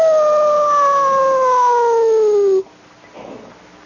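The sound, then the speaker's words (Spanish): A single long, wolf-like howl from a human voice imitating a lone wolf, loud, with a steady pitch that slowly sinks for about two and a half seconds before cutting off into quiet. “Y ese era yo, Kevin Arnold, el lobo solitario. ¡Au!”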